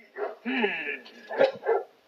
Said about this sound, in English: We're going to bark at stuff. Barking! We wonder. The truck that we heard must have a human the dogs do not like.